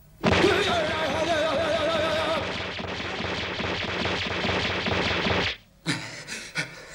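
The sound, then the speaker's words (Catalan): Yamcha unleashes a rapid flurry of punches against a very hard wall, a dense, loud, machine-gun-like barrage of impacts lasting several seconds before cutting off, followed by a few short scattered sounds. “En veure que no passa res, en Yamcha hi descarrega una ràfaga de cops de puny.”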